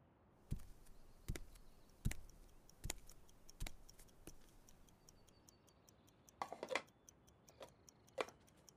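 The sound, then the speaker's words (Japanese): A handmade clock, still being built, ticking quietly inside a log house, sharp clicks arriving at a steady pace at first, then a few looser, uneven ticks and small clattering clicks toward the end. “正解、時計です。”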